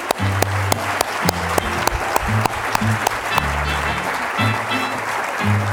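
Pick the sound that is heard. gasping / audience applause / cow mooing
audience applause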